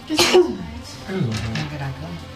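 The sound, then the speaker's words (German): A single sharp, loud sneeze bursts out near the start, followed by soft voices talking quietly in the background. “Gesundheit.”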